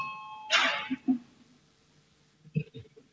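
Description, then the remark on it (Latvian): A brief electronic bell chime sounds once, clear, calling a vote in a parliament chamber, followed by quiet room murmur and a few faint voices. “zvanu, balsosim par 24. deputātu Papļuta iesniegto priekšlikumu”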